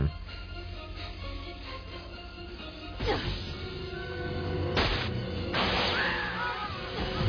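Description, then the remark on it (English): Continuous hissing steam sound effect, a dense, steady rush of noise that swells slightly louder toward the end, broken by a few brief, sharper bursts. “That's a good effect. Yeah. Steam.”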